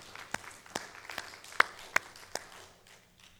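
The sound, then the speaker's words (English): Sparse, scattered applause from a small group at a church service, given to the ladies to praise God for their service: about half a dozen distinct sharp claps spaced unevenly over a few seconds, fairly soft, fading out near the end with no voices. “And can we just give those ladies a round of applause to praise God for their service?”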